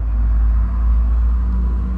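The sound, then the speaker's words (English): A track of urban ambience played in a sound installation at the Des Moines Art Center: a vehicle engine roars steadily, a loud, continuous low rumble with a faint hum of harmonics above it and no voices. “Another, the roar of a vehicle's engine.”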